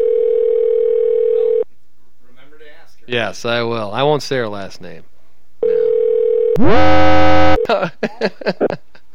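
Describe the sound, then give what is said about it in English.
A phone line rings on an outgoing call: a long, steady electronic ring tone, a pause filled with voices talking, then a second ring cut off by a loud harsh tone before more talk. “Are you calling? The first one is Kathy? Kay? Okay, all right. Let's give her a shot. See what she'll go on. It's ringing.”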